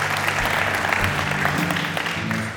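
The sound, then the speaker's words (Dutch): Steady applause from a small group, a dense patter of claps holding at an even, fairly loud level before easing slightly at the end. “Dus hey, zullen we hem een applaus geven,”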